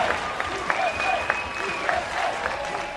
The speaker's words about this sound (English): The U.S. is the last team to arrive. Recognizing the United States of America. And the crowd erupts.